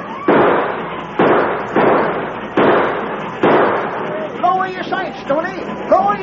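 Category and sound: sound effect, gunshots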